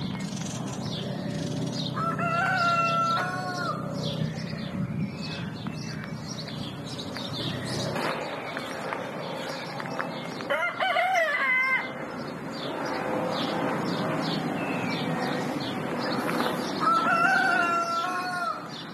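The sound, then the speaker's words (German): A rooster crows a few times over a busy outdoor soundscape of chirping songbirds, with the steady rumble of a distant aircraft passing in the background, at the Quartierbauernhof Wineck neighbourhood farm in the middle of Zurich. “Vögel, die zwitschern, irgendwo weit weg ein Flug am Himmel und dann der Gückel.”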